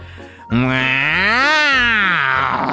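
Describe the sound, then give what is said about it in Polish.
A man lets out a loud, drawn-out roar imitating an animal, starting abruptly and holding for over two seconds, its strained pitch climbing and then sinking, with no other talk. “Ryczy przeraźliwie i zaczyna chodzić na czworakach.”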